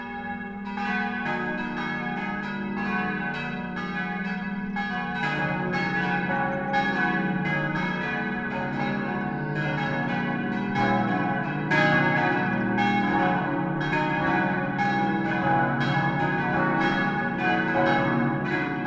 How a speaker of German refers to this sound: Es ist 12 Uhr. Das Mittagsläuten kommt heute von der katholischen Pfarrkirche St. Peter und Paul in Oberammergau.